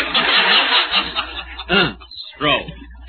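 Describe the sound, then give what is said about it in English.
The motorboat engine of a fishing boat far out on the Atlantic Ocean churns with a loud, rough buzz for a moment, then fades back as voices speak over the remaining noise. “Oh, another boat.”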